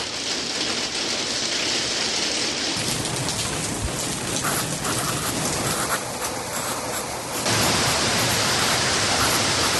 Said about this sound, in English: it's not a good start to the day with the rain and showers and everything. That is the worst possible thing, man. When you get up and it's like, sometimes I have to get up real early and it's just like dark and rainy.